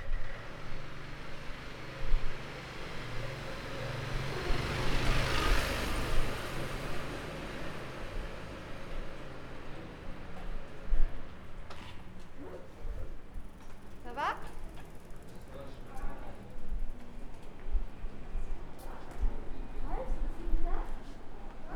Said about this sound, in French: Oh, une voiture qui passe. Attention.